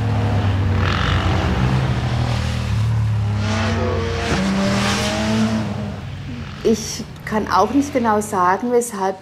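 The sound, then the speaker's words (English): Motorcycles rev loudly as they ride through the village of Sassbachwalden in the Black Forest on a Sunday, their engines rising and falling in pitch for several seconds, then the roar cuts off and a person starts talking. “She says that on sunny Sundays, up to 1,000 motorcyclists pass through her village, and about 20% of them really rev their engines as they ride. These are some she recorded last Sunday.”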